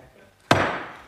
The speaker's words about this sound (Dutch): Voor de dames en heren thuis, er is een scherp raadslid die constateert dat mijn hamer de eerste keer landde op mijn iPad. Hij wordt nu geïnspecteerd door wethouder. Hij leeft nog, hè?